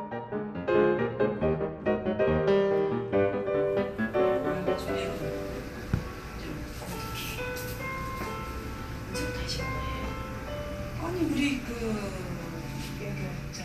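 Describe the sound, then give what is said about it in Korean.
Soft, calm instrumental music plays steadily in a quiet skin care salon with several small treatment rooms, its gentle notes clearest at first, then blending with a muffled indoor ambience and faint indistinct women's voices leaking from the treatment rooms. “나란히 붙어 있는 관리실로 잔잔한 음악 소리가 새어 들어가고 관리실 문 틈으로 여성들의 말소리가 새어 나옵니다.”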